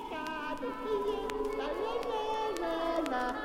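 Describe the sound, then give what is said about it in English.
Several young children's high-pitched voices chatter and call out over one another at a steady, lively level, like a group of kids playing together, with occasional sharp little knocks and clatters. “Kids playing.”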